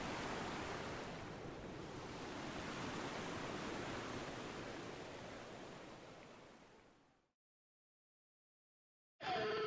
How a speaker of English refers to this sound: I plunge into the creek, letting the cold, rushing water return me to my body, push me along the rocks, and engulf me before I come up for air.